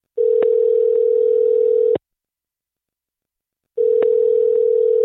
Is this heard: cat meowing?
no